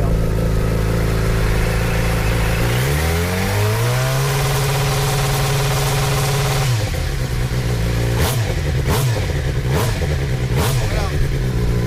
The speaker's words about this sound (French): C'est avec ce bruit de la moto de l'écurie Team Véro de Véronique Mondi que l'on commence cette émission.